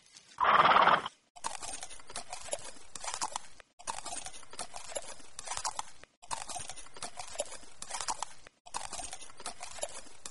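A cowboy's horse gives one loud whinny, followed by steady clip-clopping hooves that continue in repeated bursts with brief pauses between them.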